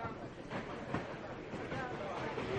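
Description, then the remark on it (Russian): A train slows down, rolling along with a steady, noisy rumble and a few faint rhythmic clacks of wheels on the rails, continuous throughout. “Они стучали теперь значительно протяжнее и тоже точно жаловались на то, что машина насильно задерживает их бойкий веселый ход.”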